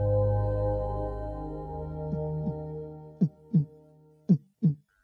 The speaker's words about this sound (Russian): Крис знал, что на Земле сердцебиение будет слышно лишь через 3 недели после зачатия